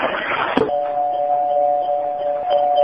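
A click, then a doorbell gives a steady, mid-pitched electric buzz that holds unbroken for about two seconds over a low background hiss.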